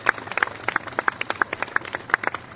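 Audience applause of steady, sharp handclaps, many quick overlapping claps at a moderate level, fairly sparse rather than a dense roar, with no talking over them.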